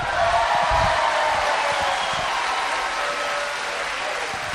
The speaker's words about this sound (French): Et puis tant qu'on y est dans les applaudissements, on va faire un méga applaudissement à Jésus.